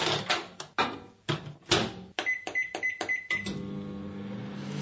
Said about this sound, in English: What is that? Oh, that microwave. Did you put a microphone in my kitchen last night?